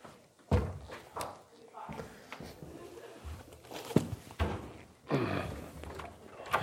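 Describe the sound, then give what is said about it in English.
A door opens with a few heavy clunks and thuds, spaced out over several seconds, as someone leaves a class with faint shuffling steps, over a soft murmur of background voices. “Could you open the door, please”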